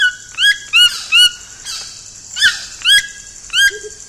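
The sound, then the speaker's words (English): A toucan gives a series of loud, croaking squawks, about eight harsh rising calls in an uneven rhythm, with no voices alongside. “That the toucan hops through the trees as it forages for fruit adds to its comical demeanor.”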